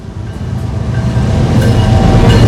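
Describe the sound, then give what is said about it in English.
At night, a train roars past a two-story house, its heavy low rumble and clattering wheels steadily growing louder over a couple of seconds, with no voices. “At night, a train barrels past a two-story house with a light glowing in the window.”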